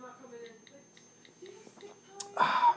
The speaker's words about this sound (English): So, like I got here a bottle of Diet Mountain Dew, zero calorie, ultraviolet. It is straight up not good. I'm going to take a sip of it and see how I feel again. This is sip two.